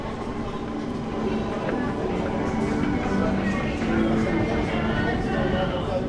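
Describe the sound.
A train travelling from London under the English Channel toward France runs with a steady, continuous rumble and rattling hum that fills the whole stretch evenly, while indistinct voices murmur faintly in the background.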